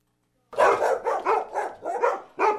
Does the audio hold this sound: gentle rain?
no